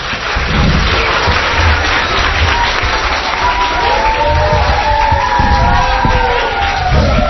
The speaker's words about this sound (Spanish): ¿Aplauso para ellos también? Sí, venga.